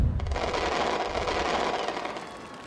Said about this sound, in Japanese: え？花火上がった？あ、ちょっと見てなかった。瞬間が見たかったのにって…近くで見るとやっぱりすごいね。